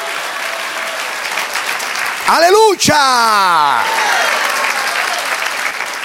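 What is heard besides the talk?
audience applause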